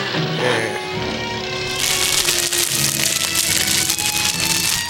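A snack wrapper rustles and crinkles in a cinema during a film, in a loud, continuous burst of crackly, papery noise that begins about two seconds in and keeps going, after a quieter stretch with a faint background hum.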